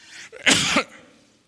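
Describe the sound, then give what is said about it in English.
A single loud sneeze: a brief sharp breath in followed by an explosive burst of noise that cuts off quickly, with no talking. “When someone sneezes.”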